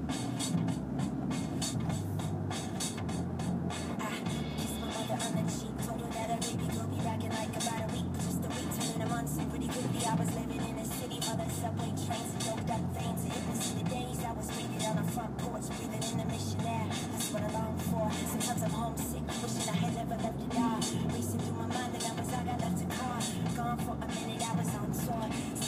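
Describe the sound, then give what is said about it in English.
A steady, unbroken rumble of a car driving along a little-used back road to a shopping center, with a handful of other cars on it, heard from inside the vehicle, with constant low engine and tire noise holding at an even level for the whole stretch. “No one ever takes it. Except for, like, the handful of cars that are taking it with me right now.”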